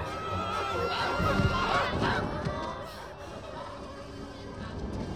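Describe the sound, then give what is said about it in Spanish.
A flock of hens clucks and squawks all around, a dense, continuous babble of overlapping calls that stays fairly steady in loudness throughout. “Oigan, estas gallinas son tiernas. Esta viene hacia mí y creo que”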